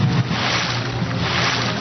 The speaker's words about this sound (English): I like this. I like those water sounds. They are relaxing.